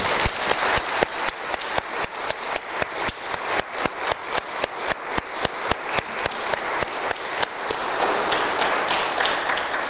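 An audience applauds together, with many hands clapping in a steady, rhythmic beat that fills the room, then loosens into a more scattered patter near the end.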